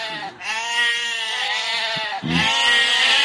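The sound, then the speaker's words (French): Goats bleat loudly and shrilly, two long wavering calls with a brief break between them and no talking. “encore plus stridente que d'entendre des chèvres qui sont dans votre jardin, Neil Hannon, lorsqu'elles vous disent bonjour”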